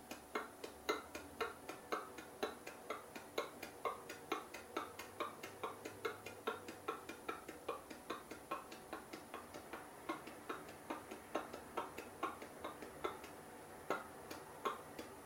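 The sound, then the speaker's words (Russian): A long run of dry, explosive T and K consonant clicks made with the mouth, sharp, repeating in a steady, even rhythm of a few per second with no speech. “Т и К делаем, все-таки стараемся более сухо и взрывно.”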